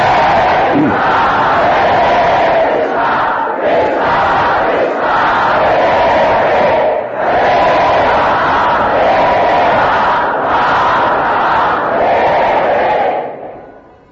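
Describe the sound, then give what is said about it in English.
A large crowd loudly chants the holy name in unison, repeating long sung phrases with brief breaks about every few seconds, steady and full throughout before fading out at the end. “The only thing that would pacify him was the loud chanting of the holy name.”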